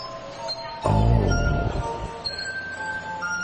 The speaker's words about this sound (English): Your finger has to be wet. That sounds kind of gross. If you play the glass, your finger has to be wet.